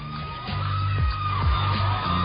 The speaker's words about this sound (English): Look at all the onlookers screaming.